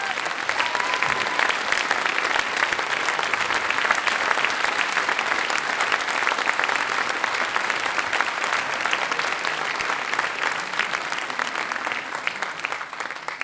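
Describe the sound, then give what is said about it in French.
A concert audience of a wind band claps loudly and steadily for Christophe, the man who built the band's machine. A dense wash of many hands is sustained for over ten seconds at an even volume, tapering only slightly at the very end. “Donc, je voudrais qu'on l'applaudisse très fort, un très très grand merci.”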